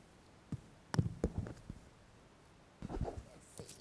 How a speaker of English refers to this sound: I got a piece of paper right here. If I cut a big hole in this piece of paper, do you think I can fit my whole body through it?